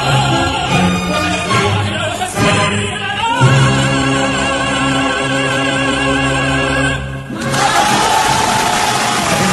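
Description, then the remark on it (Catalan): Orchestra and sustained operatic singing swell toward the final chord of an opera, then the audience bursts into loud, wild cheering and applause over the last couple of seconds. “No, calma, encara no ha acabat. No ha acabat. Deixeu que acabi l'orquestra, que l'orquestra també...”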